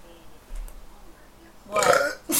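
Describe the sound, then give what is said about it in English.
A loud burp erupts near the end after a quiet stretch, a raspy guttural belch lasting about half a second, followed by a brief second gust. “I needed to burp.”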